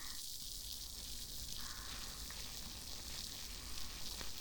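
carbonated foam bubbles popping

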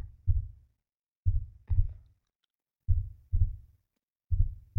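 heartbeat

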